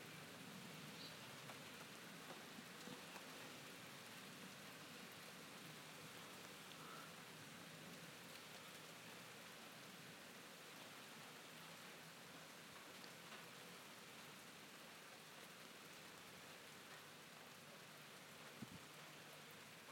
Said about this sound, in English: What I want is a really good storm. These are a bit pathetic. They're just like thundery showers, really.